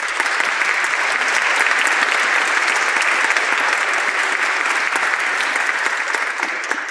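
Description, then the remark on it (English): Steady, dense audience applause for several seconds, many hands clapping at once in a continuous, fairly loud wash with no voices standing out, thanking sponsors including the London Community Foundation, the Good Foundation, London Arts Council, the City of London and the Ontario Arts Council. “Please, a warm round of applause.”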